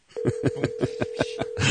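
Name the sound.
telephone dialing tones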